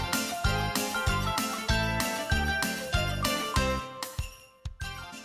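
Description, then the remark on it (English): The Jingle Bells song plays, with bright jingling sleigh bells and steady bass pulses keeping an upbeat rhythm, then thins out to a few scattered bell hits at the end. No one speaks. “I'm going to put Jingle Bells on for a second.”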